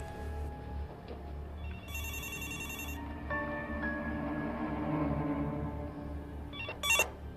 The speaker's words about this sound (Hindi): अम्मी, जरा फोन उठाएं